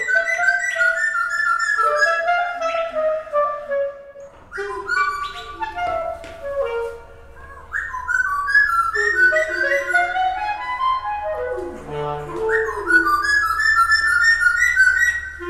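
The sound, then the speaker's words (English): A small bird with brown feathers and a dark beak chirps and trills back and forth with a clarinet's sustained, gliding tones in call and response. The two voices overlap and answer each other, fairly loud, with no talking. “This bird and this clarinetist are doing something together.”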